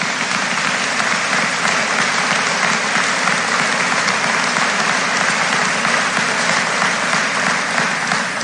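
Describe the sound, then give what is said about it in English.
A crowd claps steadily for several seconds for four Recovery Community Foundation scholarship winners, a dense, even patter of many hands at a constant loud level with no voices on top. “Let's give these four Recovery Community Foundation scholarship winners a round of applause.”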